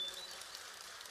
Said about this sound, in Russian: Ой, дождь пошел, птички, слышите? Дождь пошел и прошел.